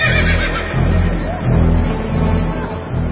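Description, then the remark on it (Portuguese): A horse whinnies loudly, a rough, harmonic neigh that rises and falls in a few surges across about three seconds, with no talking. “O rei deu a ordem, os mensageiros montaram cavalos ligeiros da estrebaria real e saíram depressa.”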